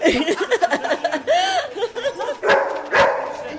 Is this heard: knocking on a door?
no